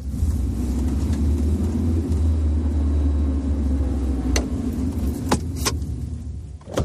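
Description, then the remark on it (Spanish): A car drives toward the Almendra reservoir dam in Spain, a trip of about 15 minutes, with a steady, loud low rumble of engine and road noise, while a few sharp rattling clicks break through toward the end. No one speaks. “Bueno, pues vamos a comprobarla, así que nos vamos allá, cogemos el coche que tenemos, unos 15 minutos.”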